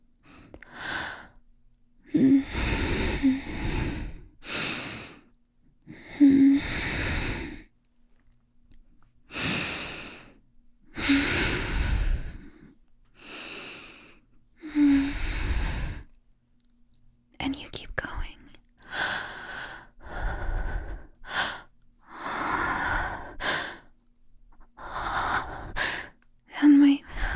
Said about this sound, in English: Just thrusting into me. And my breathing starts changing.